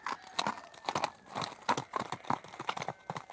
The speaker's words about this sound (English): They wave their hats in the air, give a loud shout, and ride off on their horses.